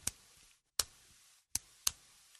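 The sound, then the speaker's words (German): A twist ballpoint pen, taken from a drawer, being turned, making four crisp mechanical clicks at uneven intervals, each ending quickly, with near silence between them and no one talking. “Dann habe ich einen, da muss man drehen.”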